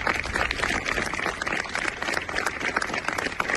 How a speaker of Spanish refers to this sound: Con estos aplausos se han roto los 5 minutos de silencio que se han guardado este mediodía en Punta Umbría.